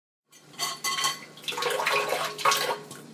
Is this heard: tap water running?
yes